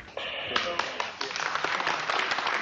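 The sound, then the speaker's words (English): A town meeting crowd in St. Gabriel breaks into steady, dense applause, many hands clapping together in a continuous, crackling wash that holds at a fairly loud level, with some voices mixed in underneath. “It was the only sustained applause of the night.”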